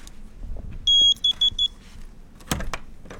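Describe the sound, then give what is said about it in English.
A key card reader at the Capitol gives one sustained high-pitched electronic beep followed by three quick short beeps, then a brief clunk and rattle over a low background rumble, as State Representative Larry Inman swipes his key card trying to get into his locked office. “He knows it won't work, but he's swiping his key card to try and get in.”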